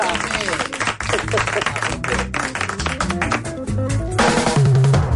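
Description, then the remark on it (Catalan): A burst of applause for a modern farmer, dense, steady clapping from a group, lasting several seconds and blended with voices and some musical tones underneath, fairly loud. “Un aplaudiment per a una grangera moderna, La Closca.”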